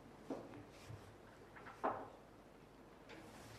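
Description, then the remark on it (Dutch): A door is pulled shut, with a few soft knocks and a louder latching thud partway through, followed by faint room tone. “Kan de deur dicht?”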